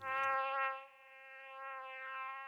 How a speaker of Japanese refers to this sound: 瞬間ハエは飛び上がった。